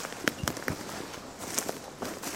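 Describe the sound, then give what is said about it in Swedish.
Footsteps crunch and crackle over dry ground outdoors in the morning sun, a handful of sharp, dry snaps in an uneven walking rhythm at moderate loudness, with a soft hiss of outdoor background and no talking. “Det är torrt, man hör att det är torrt. Det knastrar.”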